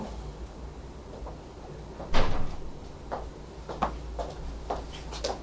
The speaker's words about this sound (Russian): Можно ту дверь закрыть, кстати, да.